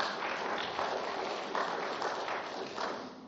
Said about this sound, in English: Let's give him a little round of applause, if we could.